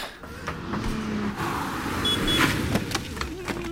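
A Polo car's engine rumbles steadily while an electric window motor whirs, with a few mechanical clicks and knocks, moderately loud throughout.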